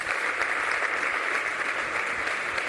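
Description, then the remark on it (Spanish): Sustained two-minute ovation from an audience, a dense steady wash of many hands clapping at an even, loud level throughout with no voices standing out. “Y a partir de ahí, dos minutos de ovación.”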